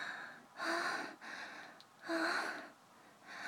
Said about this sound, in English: I hear you panting. I hear you moaning.